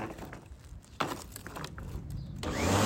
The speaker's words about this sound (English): I'm mowing the lawn. Is that what your lawnmower sounds like? Yeah. It sounds like you're like inflating a Zeppelin or something.